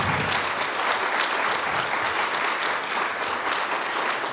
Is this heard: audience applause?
yes